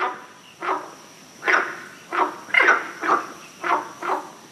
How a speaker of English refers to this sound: The frog on the recording is obviously a water frog, which is the vernacular name used for frogs in the genus Palaeophilax.